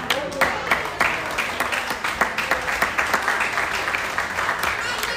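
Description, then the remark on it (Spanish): An audience at a church service applauds Christ in a dense, steady burst of many hands clapping, sustained and fairly loud throughout, with a few voices mixed into the clatter. “Y si Cristo viene ahora mismo, Santo Padre, denle aplauso.”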